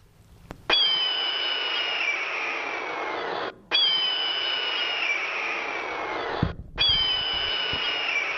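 A red-tailed hawk lets out three long, hoarse, raspy screams in steady succession, each one slurring downward in pitch, loud, with only brief pauses between them.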